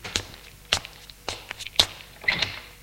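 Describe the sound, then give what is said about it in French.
Muffled footsteps thud behind the door of a top-floor apartment at a steady, unhurried pace, about five heavy steps, ending in a cluster of knocks and clatter as the door is opened after a knock. No voices. “On entend des pas derrière la porte et la porte s'ouvre.”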